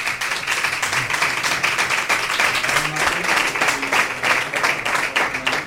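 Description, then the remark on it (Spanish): Steady applause from a crowd for the camarera of the Bellavista brotherhood fills the whole stretch, a dense wash of many hands clapping at an even loudness with no voices standing out. “Vamos a darle un aplauso a la camarera, ¿no?”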